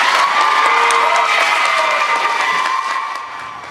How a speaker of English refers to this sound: Yeah, so you can hear and see the people there applauding after Council Member Deidreana Freeman asked for some language, an amendment for that language of genocide to be added in the resolution.